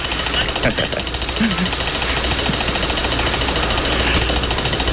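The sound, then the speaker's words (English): Small objects on a bedroom dresser vibrate in a steady, buzzing rattle, with a low continuous hum and scattered faint clicks running through the whole stretch at an even, moderate loudness. “The stuff on the dresser vibrating.”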